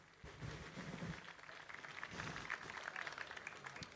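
An audience applauds steadily, many hands clapping in a dense, continuous patter with some murmuring voices mixed in beneath it.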